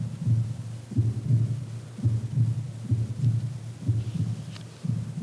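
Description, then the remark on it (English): A steady, low heartbeat thumps in paired beats at a regular pace, muffled, with a faint hum underneath and no voices. “often in the middle of the night when you wake up, if you're married, you can actually hear the heartbeat of the one next to you.”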